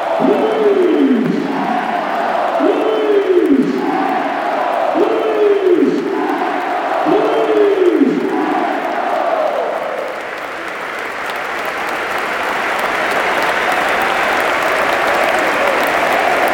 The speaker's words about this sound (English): Yeah, he's been clapped off by all the players. Definitely his last game for the club.